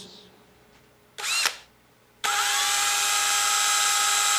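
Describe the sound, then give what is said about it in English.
A power drill gives a short whirring burst, pauses, then starts again and runs steadily at full speed with a loud, high motor whine. No one speaks. “Drill it, baby.”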